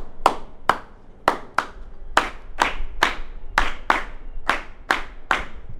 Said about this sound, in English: I want y'all to give me a hand clap.